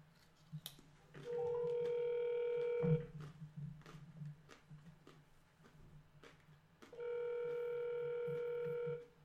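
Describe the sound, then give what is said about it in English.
An outgoing phone call ringback tone, calling a guest for a call-in: two steady, loud electronic rings of about one and a half to two seconds each, separated by a pause, with faint background clatter underneath. “So let me call her right now.”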